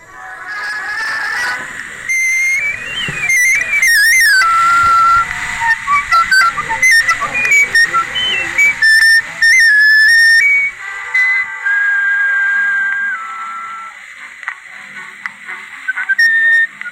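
A 78 record plays on a wooden-bell Victrola: a thin, tinny melody of high, whistle-like sliding notes over a steady surface hiss, with no talking.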